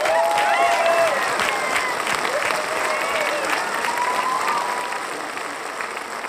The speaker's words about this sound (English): The Obersturmbannführer says nothing, but nods to the clapping Führer, the clapping crowd.